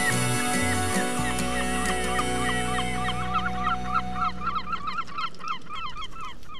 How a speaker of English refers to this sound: They like the seagulls. Them were the seagulls. I had to breed them seagulls to get them to play, and I had to convince them, you know. They're Dollymount seagulls, because I actually went in to the Liffey one day